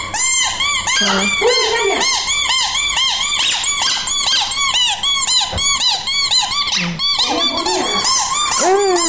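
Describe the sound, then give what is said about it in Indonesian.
Dolphins squeak and chirp almost nonstop, a loud stream of rapid high-pitched whistles and squeals with brief rising and falling calls, and no talking. “Apa itu ikannya? Ikan lumba-lumba.”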